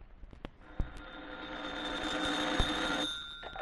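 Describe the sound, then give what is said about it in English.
A telephone rings with one long, harsh electric-bell burst lasting about two seconds, loud, preceded by a few sharp clicks. No one speaks. “Call for me, Palmer.”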